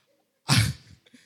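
A single sudden sneeze bursts out, loud and breathy, then trails off quickly into a few soft sniffs and small noises.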